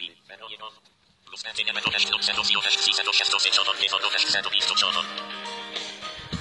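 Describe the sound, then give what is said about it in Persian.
A phone rings with a bright, melodic ringtone that plays continuously for several seconds after a brief pause, fairly loud, with no one talking over it, as a call placed from an Android phone goes through. “خب ببینید دوستان، الان این داره زنگ میزنه.”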